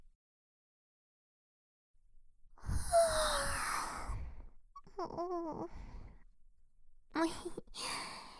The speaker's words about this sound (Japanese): 気が抜けたらあくび出ちゃった。